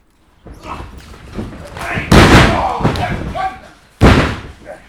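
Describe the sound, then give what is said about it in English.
A door opens onto a busy wrestling gym on an industrial estate at Winchelsea Beach, near Rye, England, on a Sunday afternoon: two loud, sharp slams of bodies hitting the mat ring out, with muffled voices and shuffling in between. “It's a Sunday afternoon, and something very different is happening behind this door. Should we go in?”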